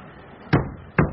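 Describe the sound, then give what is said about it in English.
Two solid knocks on a wooden door, spaced about half a second apart, each a sharp hollow thud that rings briefly, against a faint background hush. “If I'd known it was open, I could have saved my knuckles.”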